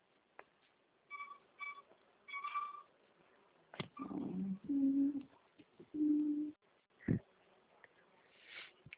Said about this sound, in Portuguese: Tô com um gato aqui me perturbando.